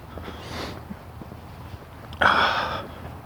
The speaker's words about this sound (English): Snort, sniff.